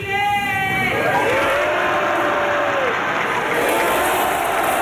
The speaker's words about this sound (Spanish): Ahora sí, ¡viva Chile!, grita una persona en la grada, que es respondido por todo el Salón de Honor con un aplauso.